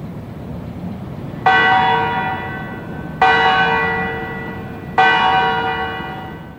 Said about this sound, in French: Alors, c'est les cloches de la tour centrale du Parlement qu'on entend